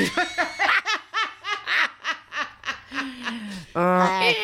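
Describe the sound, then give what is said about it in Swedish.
A donkey brays in the background in a rhythmic series of harsh, wheezy honks, then drops to a lower drawn-out note before ending on a loud, strained blast. No one speaks. “man kan gå men det blir åsnan han som skrek i bakgrunden på tasen.”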